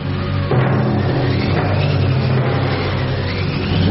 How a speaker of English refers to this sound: Oh, wind machine.